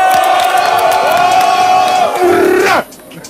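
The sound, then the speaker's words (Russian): A loud crowd at a rap battle cheers and shouts for the second round with Harry Topor, a dense, roaring wall of voices with a few yells rising above it, sustained for nearly three seconds before cutting off abruptly into near silence. “Второй раунд, Гарри Топор, дайте шуму!”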